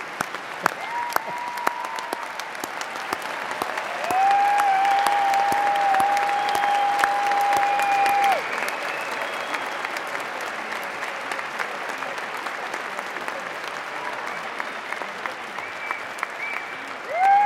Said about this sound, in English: Congratulations to all of you. I hope you would join me in a round of applause for our graduates.